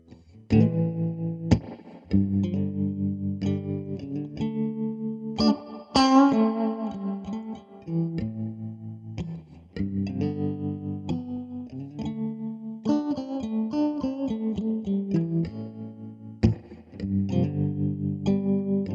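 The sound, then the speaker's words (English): An electric guitar plays steady chords and riffs through effects, with a slightly distorted, shimmering tone and some echo, sustaining loudly for the whole stretch with brief dips between phrases and no voices. “Here's some guitar.”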